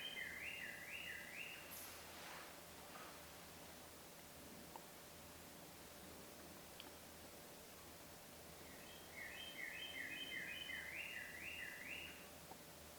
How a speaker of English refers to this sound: Even while the bird sings in the background, it's all there.